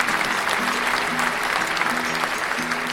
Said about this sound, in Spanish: ¿Acertaste? Date unos fuertes aplausos.